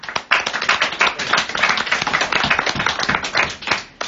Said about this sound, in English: And let's just show with the how to say. Let's applaud.